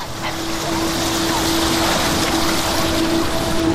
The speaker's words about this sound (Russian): Сколько воды! Я бы хотела поплавать. Мне так нравится, что вода поднимается сюда. Как будто она злится.